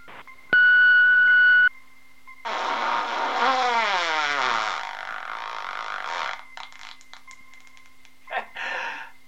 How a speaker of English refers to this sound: Leave your message after the beep.